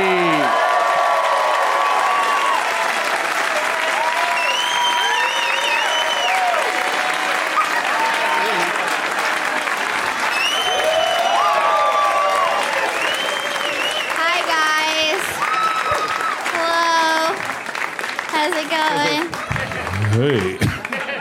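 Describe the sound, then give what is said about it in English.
A sustained burst of audience applause with scattered cheers, whoops and whistles rising above steady dense clapping, loud and continuous for about twenty seconds with some crowd chatter mixed in, as the host welcomes the show's guests Eric Griffin, Amy Miller, Leonard Maltin and Kumail Nanjiani. “Please give a big welcome.”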